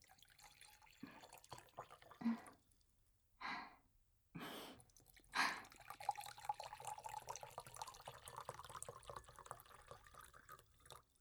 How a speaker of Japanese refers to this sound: あ、ご主人様のコップも減っていますし、お継ぎいたします。